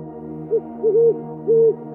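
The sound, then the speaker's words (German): A distant eagle owl hoots three times at night, a brief low call followed by two longer, steady hoots, all over a constant low droning hum with no voices. “Nur wir sind noch unterwegs und werden von dem fernen Rufen des Uhus zu einem nächtlichen Spaziergang eingeladen.”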